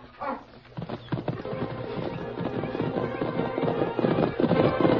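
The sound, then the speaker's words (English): A man's horse clip-clops away in a quick, steady rhythm of sharp hoof knocks, continuing throughout over a dense, rumbling background noise that grows slightly louder toward the end. “Getting to his horse.”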